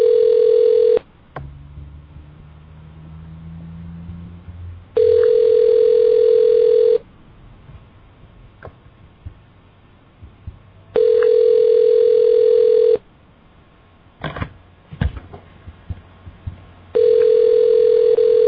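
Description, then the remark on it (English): Outgoing phone ringback tone: a steady electronic ring of about two seconds repeats every six seconds, loud and clear over a faint line hiss, with no one answering or speaking. “All right, yeah, that was me calling, and it rang, and I'm not getting him.”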